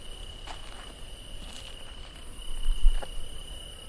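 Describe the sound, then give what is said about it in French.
Crickets chirp in a steady, continuous high trill across the whole recording, with a few soft taps and rustles underneath, outdoors at night beside the Garonne, a small stream flowing from a lagoon, on the way to a lighthouse. “Les grillons ont remplacé les cigales.”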